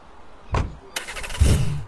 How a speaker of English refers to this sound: I'm on my way. Trust me. Trust me. I'm getting into the car right now.